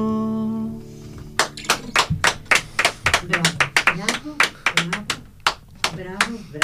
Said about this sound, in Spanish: Bravo, bravo, no me escucho nada. Ahora estoy en la antena, poniendo los aplausos, ¿no?